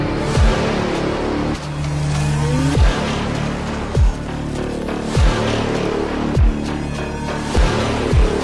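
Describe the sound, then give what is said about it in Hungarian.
A loud tractor engine revs and roars, its pitch rising and falling in repeated surges, punctuated by deep rhythmic thuds roughly every second or so, with no one speaking. “Szüksége van ehhez egy traktorra, amellyel az elvárás valósággá válik.”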